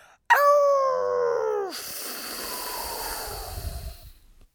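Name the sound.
wolf howling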